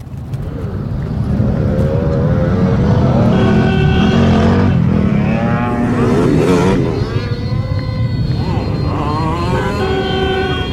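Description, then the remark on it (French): A loud modified car engine, on a car with reworked fenders and wheels, revs continuously, its pitch climbing and dropping in repeated surges before settling into a steady, rough drone. “Qu'est-ce que vous lui faites à votre voiture ?”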